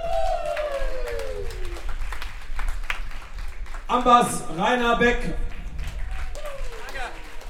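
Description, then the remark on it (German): Thin, scattered clapping from a small audience at a concert runs steadily beneath a man's voice introducing the band members over a microphone, the claps light and uneven rather than a full ovation. “Der Applaus war etwas spärlich, das hat mit den letzten zwei Liedern zu tun.”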